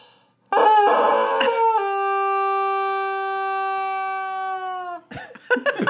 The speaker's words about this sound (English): And this is the same motion with my hand with the biggest, loudest rubber chicken.